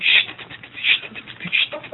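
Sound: telephone being dialed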